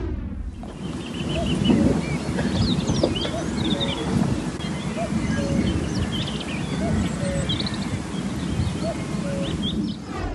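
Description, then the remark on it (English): A common cuckoo calls outdoors in a home video, its two-note cries repeated amid chirping songbirds, all set against heavy rumbling wind noise on the microphone. “That is indeed unmistakably a cuckoo, Derek, and it's such a distinctive sound.”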